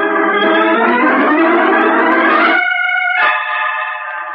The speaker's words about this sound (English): Listen, those are bells tolling in requiem for a man who has died.